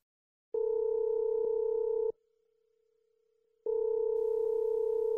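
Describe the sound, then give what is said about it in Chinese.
A telephone calling tone sounds alone while calling the Jingzhiyuan water delivery company: a steady electronic hum-like beep lasting over a second, a short pause, then the same tone returns, clear and fairly loud. “哎，送水的电话是多少来着？哦，在这里，静之源。”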